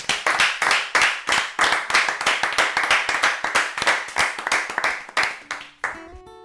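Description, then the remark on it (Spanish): An audience gives brisk, steady applause for a band that has just played, ringing out for about six seconds, sharp and loud with a quick even rhythm, then breaking off as a few soft tones begin at the very end. “un aplauso para eles.”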